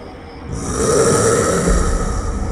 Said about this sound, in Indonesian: Aku mendengar suara nafas seseorang di area dekat teras itu. Suara nafas itu membuatku bergidik, merinding. Suara siapa ya?